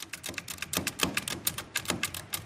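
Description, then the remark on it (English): Rapid, uneven mechanical key strikes clatter on a manual metal Braille writer that needs no electricity, a dense run of sharp clicks and thunks with no voices. “It's like a small version of an old-fashioned manual typewriter.”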